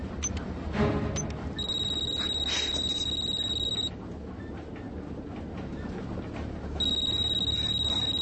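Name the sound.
phone ringing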